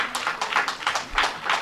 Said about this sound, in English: Four of you have courage enough to clap.